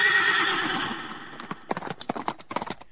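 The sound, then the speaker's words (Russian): A horse lets out a long, high whinny, then hooves clip-clop in a quick, steady rhythm on a hard surface, clear with no talking. “Иван-царевич откормил жеребенка в зеленых лугах, стал из него чудный конь.”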